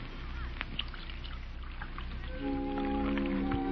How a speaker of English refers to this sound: You know, there's something about a woman pouring tea. I don't know. Seems to bring out something in her.